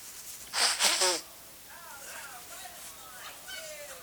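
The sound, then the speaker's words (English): A single loud, wet nasal sniffle bursts out, about half a second long, followed by faint, murmured voice sounds in the background. “Real men do have sniffles, okay?”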